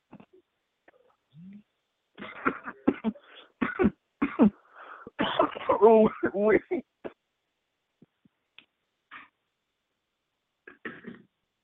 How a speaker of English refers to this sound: oh, you coughing. You forever coughing. Yeah. Slow down. Choking on water.